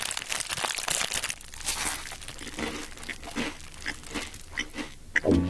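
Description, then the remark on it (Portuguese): A crinkly bag of Torcida chips rustles and crackles in irregular bursts while someone eats them, with crunchy chewing-like snaps mixed in, fairly loud throughout with no voices. “Eu tô aqui, inclusive, comendo um torcida.”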